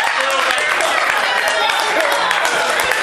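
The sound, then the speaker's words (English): A dense, steady patter of hand clapping runs for about three seconds, loud and even throughout, with sharp overlapping claps and a faint murmur of voices underneath. “Oh, were you applauding because she did that?”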